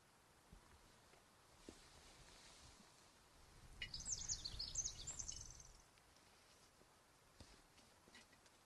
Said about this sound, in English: Ten minutes pass. I hear birds, wind. To be honest, 1 square inch sounds a lot like all of the other inches of forest we passed through today.